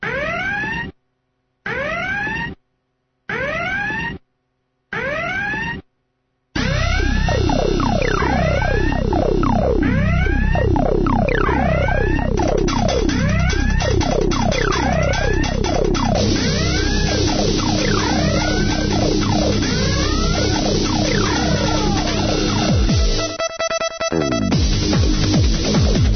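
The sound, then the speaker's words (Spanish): Four short, loud siren blasts, then a continuous wall of overlapping wailing sirens rising and falling together, intense for about twenty seconds, with no voices. “Y las sirenas que una semana más nos alertan de la seguridad, de lo que ocurre en el mundo, de virus, gusanos, troyanos y otras amenazas”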